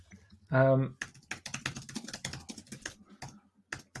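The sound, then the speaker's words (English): Rapid, crisp typing on a computer keyboard picked up by a microphone next to the typist: a steady run of clicking keystrokes that follows a short, loud tonal burst near the start. “Oh, no, that was my typing, wasn't it?”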